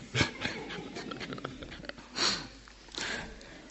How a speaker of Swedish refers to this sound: Precis när jag läser, lägg märke till detta. Och så var det någon som nös. Då gick jag här och funderade på vad skulle jag lägga märke till. Ja, okej, det var en nysning.